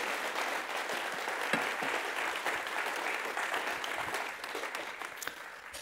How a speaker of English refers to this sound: Give him a round of applause as he's seated.